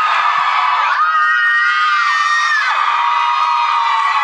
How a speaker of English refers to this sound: Our friend Lizzie Cooperman told us that her secret before going on stage and not being nervous is to scream into her hands.